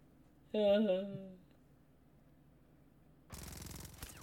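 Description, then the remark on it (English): A short voiced shout rings out, then after a pause a dense burst of rapid automatic gunfire rattles in for about a second, fairly loud and harsh, from a shootout scene in a movie. “He's going to shoot you and you'll die. Bang, bang.”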